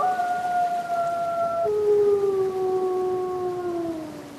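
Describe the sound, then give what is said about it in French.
A wolf pack of about eight wolves howls together, several long overlapping voices holding steady notes that slowly slide downward in pitch, sustained throughout at moderate volume with no talking. “Alors, dans cette meute, il y a combien de loups là ?”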